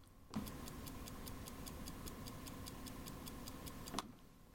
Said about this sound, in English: The sound of a clock ticking. Doesn't really matter if you couldn't hear it, because it's there, but it's not a very loud tick anyway.